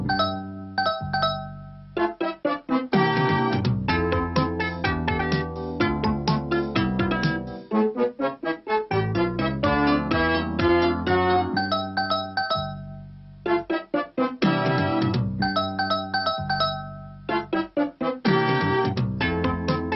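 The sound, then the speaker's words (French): An apartment front-door doorbell chime tune plays loud for the whole stretch, a busy run of bright melodic notes with brief pauses between phrases and no voices. “en fait un simple sonnerie d'appartement, ouais.”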